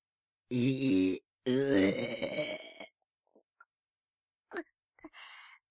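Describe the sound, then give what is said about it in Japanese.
Two loud burps in quick succession, a short one followed by a longer, drawn-out croaking belch, then a few faint small sounds in the quiet afterward. “早速ゲップが込み上げてしまいましたわ。”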